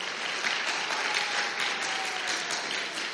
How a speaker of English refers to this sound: It's a stage design, and our youth actually helped put it together, so let's give a round of applause for our youth.